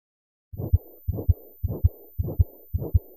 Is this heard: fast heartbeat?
yes